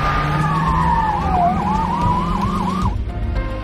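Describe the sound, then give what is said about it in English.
A police siren wails, sliding down then whooping in quick repeated yelps over a loud engine rumble as a police chief and a policeman speed off in their cars, cutting off abruptly near the end. “Chief and policeman get in their cars and speed off.”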